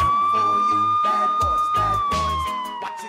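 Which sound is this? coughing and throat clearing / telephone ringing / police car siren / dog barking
police car siren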